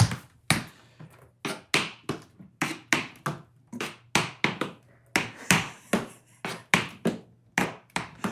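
Tap shoes bought from Amazon strike a hard floor in slow shuffle steps of a 6 and 10 step combination, a steady stream of sharp, bright clicks, often in quick pairs, with no talking over them.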